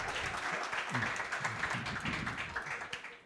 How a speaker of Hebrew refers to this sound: נכון, כן, זה אפשר, לגמרי אפשר, כפיים. אפשר זה משוגע.